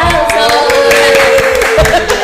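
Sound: applause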